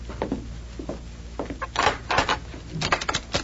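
A door opening: a series of creaking, scraping bursts with clicks and rattles of the handle and hinges, moderately loud over a low steady hum, no voices.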